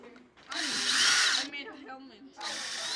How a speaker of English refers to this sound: After students cut out their pieces, Roberts drills holes to connect them by wires.